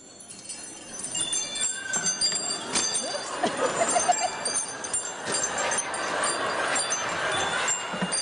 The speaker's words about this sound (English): It's wind chimes, floating on the breeze, wind chimes, tickling the trees, wind chimes, the sound of angels, belly dancing, wind chimes.